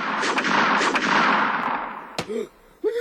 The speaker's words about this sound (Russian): Курочкин выхватил из-за пазухи пистолет и принялся стрелять во все стороны.